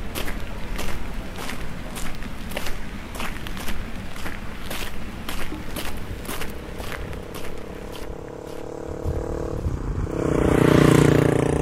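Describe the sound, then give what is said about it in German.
Steady footsteps crunch along a village street, then a man's motorcycle engine rises and grows louder as it approaches near the end, its droning hum swelling over the steps. “Der Mann auf dem Motorrad wirft mir einen kühlen Blick zu.”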